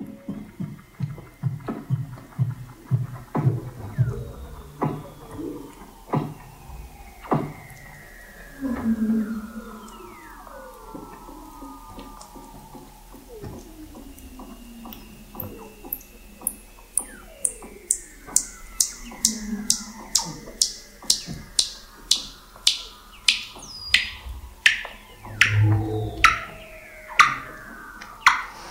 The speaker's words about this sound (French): Et je vous propose d'écouter quelques secondes pour le plaisir cette bande-son, cette magnifique combinaison de sons de l'Antarctique. Ici, nous avons des phoques et des baleines.